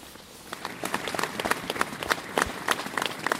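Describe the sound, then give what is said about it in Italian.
A crowd breaks into spontaneous applause, breaking the silence at a memorial gathering after a silent procession, many hands clapping in a steady, dense patter that builds slightly and carries on throughout, with no talking over it. “Il silenzio viene rotto da un applauso spontaneo.”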